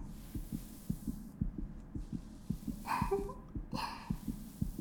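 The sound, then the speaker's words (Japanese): A muffled human heartbeat thumps in a quick, regular rhythm that is getting faster, roughly two beats a second, with a couple of brief soft rustles or breaths near the end and no talking. “あなたの心臓の鼓動、どんどん速くなっていくね。”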